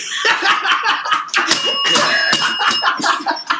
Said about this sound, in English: That was hilarious. Where I try to just ding the bell all the time. I used it as a gavel there. I'd like to use it in a lighter sense.